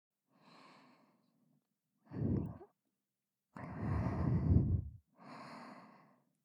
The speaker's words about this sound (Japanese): 女の子の甘い吐息で耳から頭の中いっぱいにされてふわふわ気持ちいいですね。